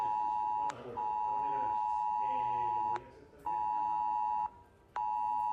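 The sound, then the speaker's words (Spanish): A phone emergency alert test beep, a trial of Protección Civil's new emergency and catastrophe alert system in Spain, sounds loud and steady in long, unbroken blasts separated by brief gaps, while voices talk quietly underneath. “Importante no asustarse de momento, eso sí, si escuchan salir este sonido de su teléfono.”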